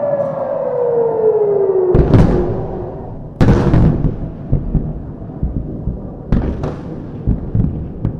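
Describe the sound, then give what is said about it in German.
An alarm siren in Israel slowly falls in pitch around 2:15 at night after the 13 April drone and rocket attack, then several loud, sharp booms of Iron Dome air defense interceptions crack out at irregular intervals, with heavy rumbling reverberation rolling between the blasts. “Gegen 2:15 in der Nacht Alarmsirenen in weiten Teilen des Landes und das Luftabwehrsystem Iron Dome macht seinen Job.”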